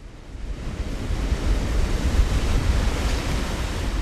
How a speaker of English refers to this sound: Right now, only a small amount of water is spilling over the ice dam and running down along the edge of the glacier.